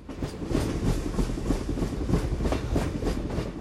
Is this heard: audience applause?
no